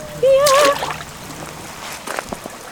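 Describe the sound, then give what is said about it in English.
Water splashes and sloshes as someone crosses a creek over slippery logs, a few short splashy bursts following a brief vocal exclamation at the start. “Okay, I'm gonna try to make it across these logs. Be careful, it's slippery.”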